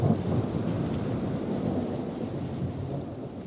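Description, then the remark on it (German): A deep, continuous rumbling of storm wind at high altitude on a mountain roars steadily throughout, heavy, with a dense low roar and a faint hiss of rain-like noise layered above it. “Die Höhenluft und das Grollen des Windes verstärken das Gefühl der Ausgeschlossenheit in ihm.”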